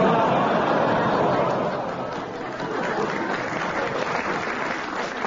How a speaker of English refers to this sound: Oh, you clap those ones, do you?